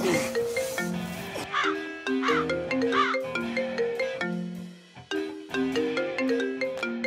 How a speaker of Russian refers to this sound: Телефон звонит. Подними трубку хотя бы.